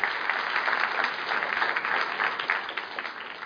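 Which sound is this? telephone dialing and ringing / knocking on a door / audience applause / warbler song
audience applause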